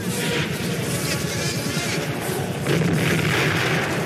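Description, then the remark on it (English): A loud, continuous battle din of rumbling explosions and rapid gunfire from a Vietnam War scene in a Francis Ford Coppola film, as American-flown helicopters descend on a village in Vietnam raining down napalm and gunfire, layered into a dense wall of noise that swells slightly toward the end. “Wagner blares from the speakers of American-flown helicopters as they descend upon a village in Vietnam, raining down napalm and gunfire.”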